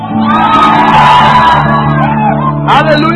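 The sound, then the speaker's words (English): A church audience shouts and cheers together in a loud, sustained burst, with overlapping yells and whoops filling the space for a few seconds. “I think we've received something that is worth shouting.”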